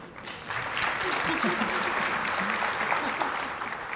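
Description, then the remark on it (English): An audience applauds with steady, dense clapping that swells after a brief quieter start and holds at a full, even level for several seconds, with faint voices mixed in underneath. “They both got a round of applause.”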